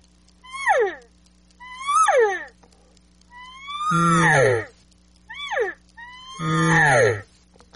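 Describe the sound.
A reed cow call blown five times: short, nasal mews that slide downward in pitch, the third and fifth drawn out longer and lower, over a faint steady hum.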